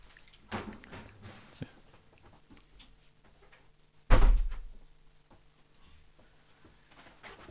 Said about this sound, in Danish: Jeg lukker lige døren derhen, mens I går videre, fordi der er simpelthen der er gang i den på biblioteket i dag.